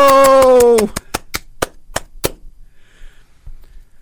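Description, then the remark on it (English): A loud, falling whoop opens over steady clapping, then roughly a dozen sharp, evenly spaced claps continue alone for a couple of seconds before stopping, leaving faint background noise. “That was not Charlie Bacon applauding, I'll tell you that.”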